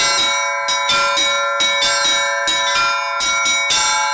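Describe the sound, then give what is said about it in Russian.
Small church bells of a portable small belfry ring in a quick, steady pattern of repeated strikes, with three small chime bells and middle melodic bells and no large bass bell. Bright overlapping tones sustain between hits, loud, with no voices. It is a bell-ringing master class at a festival in Penza. “Три маленьких колокола зазвонные, средние мелодические, не хватает только огромного басового колокола, который создает звуковой фундамент, рассказывает профессор.”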